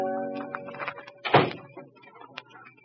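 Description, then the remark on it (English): A door closes with a single solid thud partway through, moderately loud, surrounded by softer low background sounds before and after, as someone comes home at night after saying goodnight at the door. “when Kathleen said goodnight to a young man at the door and came into the living room, where her father was finishing of the evening paper.”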